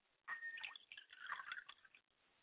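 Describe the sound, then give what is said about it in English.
Water is poured out as a libation in one short, steady stream for under two seconds, splashing and trickling, then stops. No one speaks. “I pour libations to Oladulamare.”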